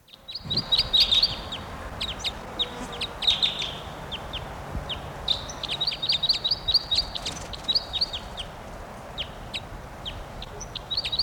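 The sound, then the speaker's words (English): A male bird, logged as bird 713, sings in bursts of rapid, high-pitched chirping notes, the phrases repeating every second or two over a low, steady background hiss, with no voices present. “Just got that bird, male, and he'll be bird 713.”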